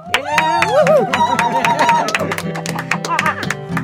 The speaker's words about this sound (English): Are we all on board? We got some people here. Give me a little clap.